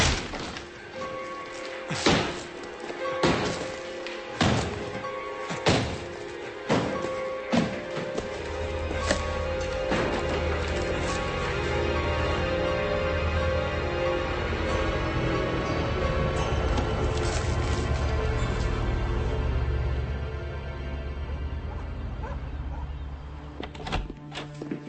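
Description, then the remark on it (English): A hammer strikes something hard several times in quick, uneven blows, sharp loud thuds and cracks, then the banging stops and a low steady hum carries on. “I need a hammer.”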